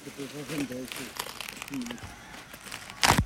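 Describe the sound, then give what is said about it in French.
A woman splits cacao pods open with a machete and scoops them into a bag to take out the pulp and seeds. Scattered crinkling and rustling clicks sound under a person talking, then a loud, sharp crackling burst comes right at the end. “elle est en train de les ouvrir un coup de machette et les évider dans un sac pour sortir juste la pulpe et les graines.”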